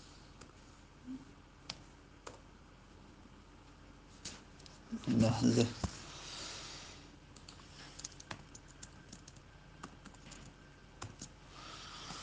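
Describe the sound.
Irregular clicks of someone typing on a computer keyboard to correct a typing mistake, with quiet pauses between bursts of keystrokes. A single brief spoken word cuts in partway through.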